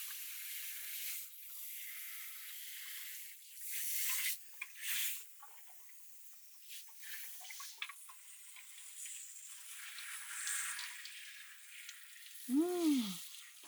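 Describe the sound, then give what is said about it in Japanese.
A steady hiss of shower water spraying and splashing over hair as shampoo is rinsed out, swelling in a few louder gushes, with a brief squeaky tone near the end and no talking. “ではでは、シャワーで流していきます。”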